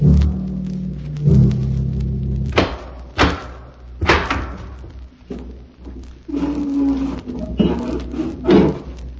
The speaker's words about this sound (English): Once again, the keeper of the book has opened the ponderous door to the secret vault,